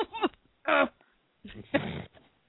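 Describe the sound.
Someone imitates how a sick woman sounded earlier, mimicking coughing with a few harsh, throaty vocal bursts separated by brief pauses. The sounds are voiced and strained rather than true coughs, and the loudest comes near the end.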